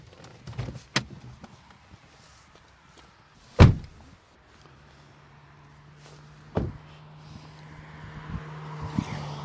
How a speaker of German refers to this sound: Also an das Geräusch müssen wir jetzt uns gewöhnen, gell? Von Auto vorbeifahren. Ja, aber das ist wirklich einfach passend. Du siehst jetzt gerade, wieso. Darum, wir bleiben am Strassenrand.